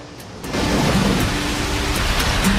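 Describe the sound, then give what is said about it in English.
A Pacific swell surges in against Hawaii's coral-reef coastline as a broad, rushing roar that swells up after a quieter opening and holds steady, hissing and rumbling with no voices. “A surging wave.”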